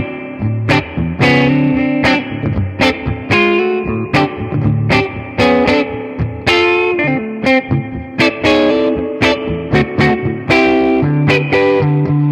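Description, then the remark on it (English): Loud, gritty music played through a spring reverb unit on its full setting, soaked in heavy spring reverb, with sharp rhythmic hits that splash and ring out into a dense, washy tail throughout. No voices. “But yeah, it's a good unit that, because it sounds quite real, and I like the kind of grubbiness, the dirtiness of spring.”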